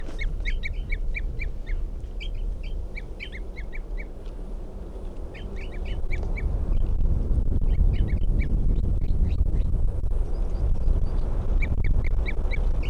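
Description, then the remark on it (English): A wild bird, identified as bird 305, gives repeated short tooping calls in response to decoys, in quick bursts of four or five notes, pausing between series, clear over a steady low outdoor rumble. “Toops of the wild bird. And that's 305 who's tooping there.”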